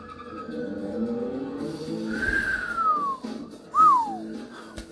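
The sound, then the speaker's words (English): A car engine rumbles steadily while tires let out two falling, high-pitched squeals, a long screech followed by a shorter one, before the motor keeps droning on, as the character Dom drives off in a movie scene in the car Brian gave him the keys to. “Dom drives off.”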